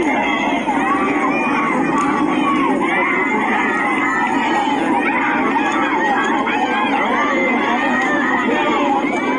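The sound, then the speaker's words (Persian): A large crowd of protesters in the town of Dashti, Iran, who have lit fires, chants and shouts slogans together on a Monday evening, a loud, continuous roar of many raised voices with no pauses for the full length. “مردم معترض شهر دشتی روز و شامگاه دوشنبه پس از 40 حامد مولایی آتش افروخته و شعار سر دادند.”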